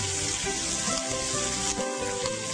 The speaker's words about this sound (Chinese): 煎到这个油哈，都有一点猪油都有一点释放出来，都无所谓哈，那个猪油很香的哦。好，煎到这样子啊，两边都已经黄黄了